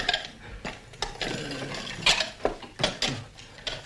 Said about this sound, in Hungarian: Tedd le a tányért.